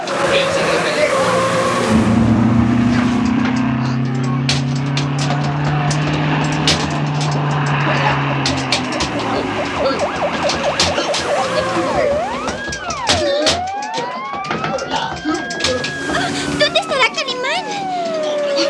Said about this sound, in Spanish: Los 10 autos policíacos enviados al sitio se detienen.